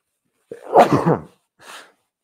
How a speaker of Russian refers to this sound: Что-то я много чихаю, не заболеть бы.